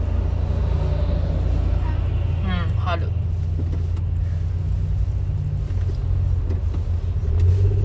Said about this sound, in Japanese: 乗るバスだ。